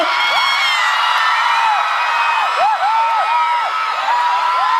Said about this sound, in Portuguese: Quem gostou, dá um grito!